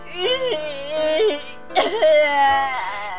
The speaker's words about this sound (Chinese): 哭得好伤心啊。